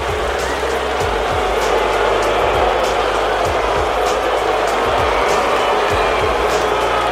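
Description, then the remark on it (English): A packed basketball arena crowd of Boston fans boos the home team, down 16 to the Sixers going into the fourth quarter, in a loud, sustained roar that holds steady for several seconds, a dense wash of voices filling the space. “Joe Mazzulla's team getting booed out of their own building”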